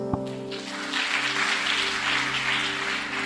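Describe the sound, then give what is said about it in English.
An audience claps steadily for about three seconds at the close of a panel discussion on relationships and student life, a dense, even patter of many hands that starts quickly and holds a fairly constant level, with a low electrical hum underneath. “I wish you as we go, we clap hands.”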